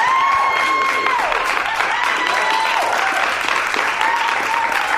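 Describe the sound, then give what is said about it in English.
A burst of canned applause played from an applause button on the Joy 94.9 radio show, a dense, steady wash of clapping and crowd cheering with a whistle-like tone gliding over it, loud and sustained for several seconds. “You found the applause button, I see.”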